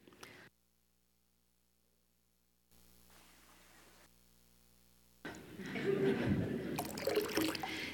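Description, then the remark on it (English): After a few seconds of near silence, hands splash and slosh water in a baptismal font as worshippers come forward to touch the water and remember their baptism, fairly loud, a busy wet churning that continues to the end. “Also, let's don't forget, when you come forward, if you would like to remember your baptism, just touch the water. Put it on your head.”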